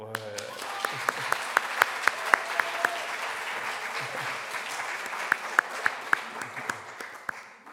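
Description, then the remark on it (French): An audience applauds steadily for several seconds for two people celebrating their birthday, a dense wash of many hands clapping with a few sharper, louder claps standing out at irregular moments. “Est-ce qu'on peut quand même les applaudir ?”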